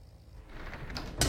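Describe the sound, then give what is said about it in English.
Frosted glass doors in a bathroom slide shut as an older woman closes them, a brief rolling scrape that builds and ends in a single firm bump, with no one speaking. “The older woman closes frosted glass doors.”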